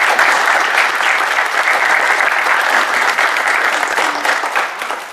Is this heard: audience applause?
yes